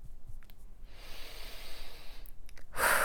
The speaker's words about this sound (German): Genau, wieder atmen, tief ein- und ausatmen, dabei die Hände abschütteln.